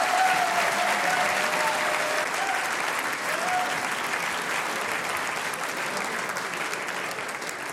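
An audience claps steadily throughout, a dense, even wash of many hands that holds its loudness and tapers only slightly toward the end, with a few faint whistles early on.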